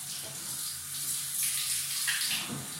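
shower water running

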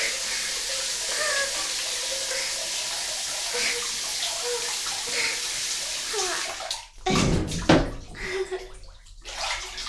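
shower water spraying

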